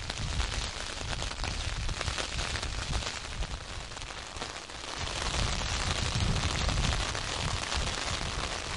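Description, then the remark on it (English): Steady wind buffets outdoors on a misty moorland with a constant wash of rain, loud throughout, with heavy low rumbling gusts swelling in the second half, as someone walks into the prevailing wind and rain. No voices. “As I'm making my way into the prevailing wind and rain, I've been trying to think whether there's just one word that I could use to sum up the landscape around me.”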